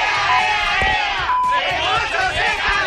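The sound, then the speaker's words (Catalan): A protest crowd of about 200 people in Girona, protesting wages and the sector's labour agreement, shouts together in a loud, sustained roar of many voices, with rhythmic chanting swelling and dipping over a constant babble, staying dense and steady throughout. “Manifestació que ha plegat a Girona unes 200 persones i amb crits com aquest.”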